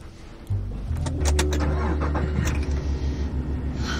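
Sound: car pulling up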